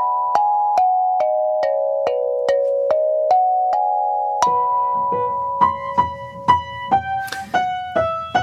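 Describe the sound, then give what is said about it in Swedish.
A small Meinl Mini Steel Tongue Drum in B major is played as a run of ringing, bell-like notes, first a steady even sequence, then livelier strikes with brighter overtones and sustained shimmering tones. No voices. “Alltså mini stål tung trumma i B dur.”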